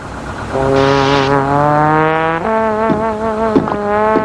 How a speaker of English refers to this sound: Look, old buddy. It's the bus to Tunisia.